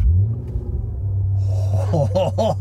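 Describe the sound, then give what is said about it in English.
A deep V8 car engine at a hotel is fired up and rumbles steadily, then roars into a few sharp revs that rise and fall in quick succession. “It's weird because it doesn't sound like a Ferrari V8. It does sound like a Maserati V8.”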